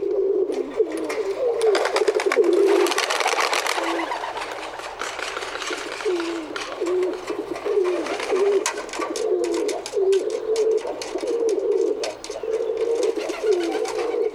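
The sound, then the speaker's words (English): Rock pigeons coo over and over in low, throaty, warbling phrases, with several birds overlapping, while bursts of rapid, fluttering wing beats break in now and then. “Let's listen to their deep muffled coos and distinctive wing beats here.”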